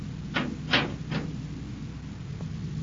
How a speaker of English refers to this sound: Shut the door.